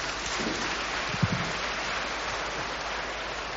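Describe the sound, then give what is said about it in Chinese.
An audience at a church evangelistic meeting claps steadily to welcome an elder who will introduce the guest speaker, a dense, even wash of applause that holds for the whole stretch, with a brief low thump partway through and no voices. “我们鼓掌，欢迎。”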